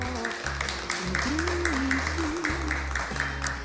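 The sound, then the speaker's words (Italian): An audience at a Radio Popolare festival event applauds the guests, many hands clapping in a dense, continuous patter at an even loudness, with a low hum and a faint voice-like tone underneath. “Va bene, allora sono le due, cominciamo e allora vorrei che facessimo un applauso ai nostri ospiti.”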